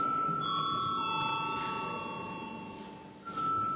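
signal or alarm, parliament chamber bell rung

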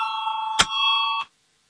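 signal or alarm, parliament voting call bell

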